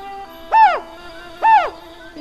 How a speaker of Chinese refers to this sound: 橡树上有一只猫头鹰，你听到它的声音没有？